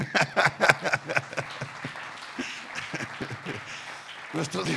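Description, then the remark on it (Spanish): A church audience breaks into applause for God during a sermon, with a loud burst of clapping at first that thins into scattered claps over several seconds, mixed with voices calling out. “¿Nadie le da un aplauso a Dios?”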